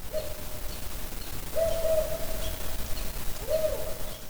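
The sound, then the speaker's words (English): A low, steady owl hooting in a four-note pattern, the species' most common call, repeated three times with pauses between, mellow tones over a quiet background hiss with no one talking. “They have a couple of distinct vocalizations that they do. The forenote, the bark, and the contact call. The forenote is the most common.”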